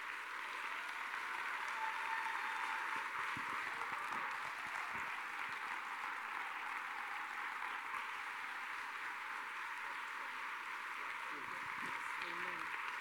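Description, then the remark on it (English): Sustained applause from a church audience welcoming Pastor Judy Shaw, a dense, steady wash of many hands clapping at even loudness throughout, with no break or rhythm emerging. “Now, come on, let's keep clapping and give the honor and the glory to God who deserves everything that we could give him.”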